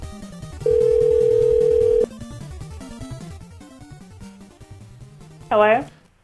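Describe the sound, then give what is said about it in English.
A telephone busy signal, heard when calling back a number served by AT&T local phone service, sounds as one loud, steady low tone lasting over a second, over a busy musical background with voices, followed later by a short bright warbling chirp. “I'm trying to call back and it's busy.”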